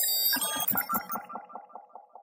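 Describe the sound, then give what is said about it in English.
A quick series of about ten short electronic beeps, like buttons being pressed on a calculator, starting dense and louder, then settling into a steady, slightly fainter rhythm. “You want an inflation calculator? Well. Yeah. Oh my God. Can we boop, boop, beep, boop, boop?”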